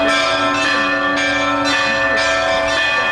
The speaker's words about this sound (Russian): Теперь ивановцы могут сами создавать радостный перезвон. И не только у храма. Звонница поехала в праздничный день по всему селу, останавливаясь на его улицах.